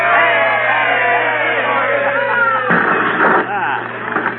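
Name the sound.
crowd cheering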